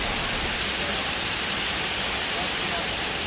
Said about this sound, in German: Aber jetzt werde ich mal mein Mikrofon etwas näher an das Plätschern des Wassers halten, damit Sie auch ein bisschen den Wasserfall hören können, der hier durch den Dschungel fließt.